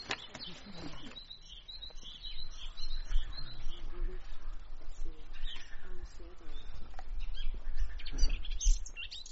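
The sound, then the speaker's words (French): A Eurasian blackcap sings in short, bright, very high-pitched warbling bursts amid other chirping birds outdoors, with a steady low rumble and faint murmuring voices in the background. “Alors là, on a eu un tout petit peu de fauvette à tête noire.”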